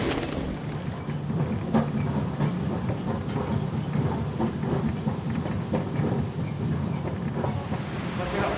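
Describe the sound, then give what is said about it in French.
Continuous dense rumble of an underground station entrance, with low mechanical drone, scattered clanks and footstep-like clicks, and a steady wash of noise like passing trains, no clear speech. “Vous voyez l'entrée du métro ? Certains d'entre nous sont allés y promener leur micro.”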